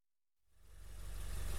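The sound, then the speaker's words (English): After a moment of silence, the engine of a bus on a school trip to Wadi Mujib idles into hearing, its low, steady throbbing rumble swelling louder over about a second, with no voices. “To Wadi Mujib, we're travelling by bus.”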